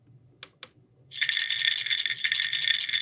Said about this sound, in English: So there's a little bit of an attention grabber and then something metaphorical so you can really tell what it is. Right, the sound of the pill bottle kind of cues medication in your head.